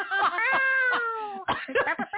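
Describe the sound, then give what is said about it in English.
A person imitates a cat with a long, drawn-out wavering meow, followed by a couple of shorter choppy vocal bits, fairly loud. “Mine kind of sounds like somebody hit a cat. Meow.”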